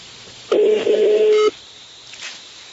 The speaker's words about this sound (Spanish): Conteste el teléfono